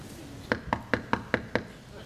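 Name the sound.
knocking on a door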